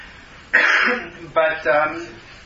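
A person coughs, one harsh burst followed by two quicker ones in succession, with a raspy, throat-clearing quality and no talking.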